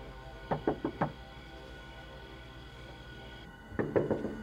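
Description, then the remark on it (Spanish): Four quick knocks from a woman rap on a door, a short pause, then another burst of four knocks follows after a few seconds of quiet; fairly loud, with no voices. “Ella había tocado a la puerta.”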